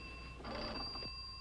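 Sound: telephone bell ringing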